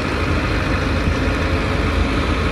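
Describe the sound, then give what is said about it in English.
A steady, dense wash of street traffic with engines idling and rumbling, including a scooter, as pedestrians step out into the middle of the traffic; a constant low drone with no pauses and no voices. “And a passerby just juts out into the middle of traffic, as does a scooter and another pedestrian.”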